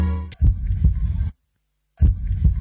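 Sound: heartbeat sound effect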